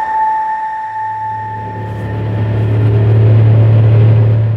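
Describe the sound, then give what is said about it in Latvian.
A heavy truck engine rumbles, a low steady drone swelling louder as it approaches, with a faint high whine fading out early on, as trucks carrying materials drive in and out of a white-fenced construction site in Andrejsala in mid-October. No one speaks. “Dažas mašīnas, kas vada materiālus, brauc iekšā un ārā no būvlaukuma, kuru ieskauj baltais žoks.”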